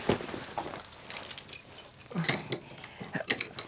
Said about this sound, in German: So, ich probiere jetzt mal die Schublade zu öffnen, ja? Ich hoffe, mein Dietrich-Set reicht aus.